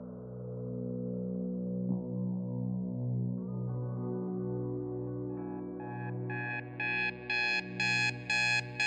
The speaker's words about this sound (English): The alarm goes off.